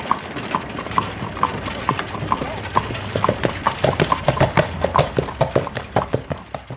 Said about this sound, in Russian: Пришпорив коня, Кассий поскакал вперед, на разведку.